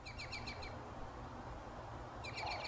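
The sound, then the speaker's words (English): Migratory birds on the Front Range in Colorado sing in two short bursts of quick, bright repeated chirps, one at the start and another near the end, over a steady low outdoor rumble. The song is fairly faint. “Migratory birds are making their presence known on the Front Range once again. As cheery as they sound, in reality, many of the bird populations that make their way through Colorado are recovering from a devastating 2020 migration”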